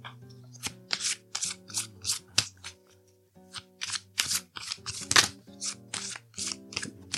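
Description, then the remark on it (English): A deck of cards being shuffled: a steady run of short, crisp papery swishes with a brief pause midway, over soft sustained background music and no talking. “Okay, so let's shuffle these cards.”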